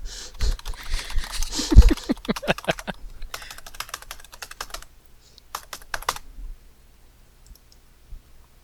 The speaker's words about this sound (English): If you listen really carefully to me furiously mashing my keyboard, you can suss out what my password is. Did you install extra loud keys on your keyboard? No, I'm just mashing it hard because I'm mad.